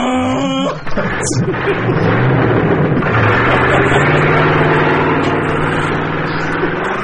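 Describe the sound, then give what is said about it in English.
An engine revving-up sound effect: a loud engine roars and revs upward, its pitch climbing through the first few seconds before holding at a steady, rumbling drone, with a sharp clunk near the start. “I could be wrong, but what it ought to do is make the sound of an engine revving up.”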